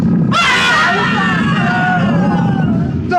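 A loud, snarling tiger roar erupts suddenly and sustains for a few seconds, dense, as the tiger attacks armed guards and flees, with a chaotic hubbub of the guards' shouting voices mixed underneath.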